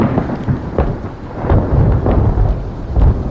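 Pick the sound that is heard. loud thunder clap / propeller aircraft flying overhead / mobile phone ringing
loud thunder clap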